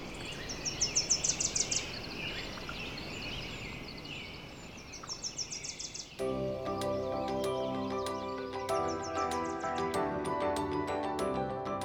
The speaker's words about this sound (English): You've got valleys filled with bird song.